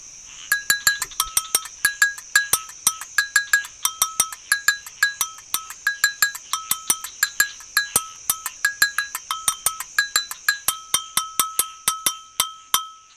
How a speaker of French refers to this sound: Le véritable instrument utilisé dans les batucadas s'appelle l'agogo. C'est la cloche de ton dont je vous parlais la semaine dernière. Écoutez voir un peu.